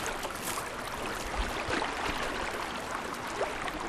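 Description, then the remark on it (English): A fast-moving river gurgles and rushes steadily, a dense continuous wash of water noise with small splashy bursts, no voices. “When you can hear the river, it's gurgling, kind of, it's very fast moving.”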